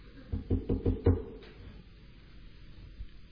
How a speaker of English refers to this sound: Then said they, it is his angel. But Peter continued knocking.